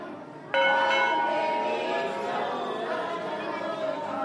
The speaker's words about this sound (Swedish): När hinduer ber ringer de i en klocka som hänger i tempeltaket för att markera närvaron inför guden. Klangen är också en hjälp för att stänga ut ovillkommande ljud och öka koncentrationen.